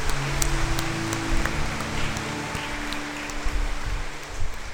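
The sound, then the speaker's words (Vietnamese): A large audience claps steadily for several seconds to celebrate the feast of its patron saint, Saint Peter, a dense, even patter of many hands, with no one speaking over it. “Trước hết chúng ta hãy nổ một tràng pháo tay để chúc mừng Quan Thầy và chúc mừng chúng ta.”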